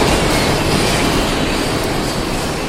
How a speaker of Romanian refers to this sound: La fabrica de reciclare este foarte greu să te auzi om cu om. Cuțitele care mărunțesc plasticul fac foarte mult zgomot. Nu te ții cu mâna de nas, dar ți-astupi urechile.